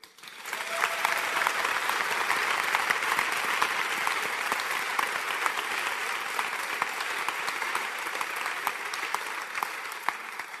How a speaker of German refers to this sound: Darf ich Sie bitten, noch einmal zu klatschen, weil der Dank und der Applaus gehört nämlich den Vieren.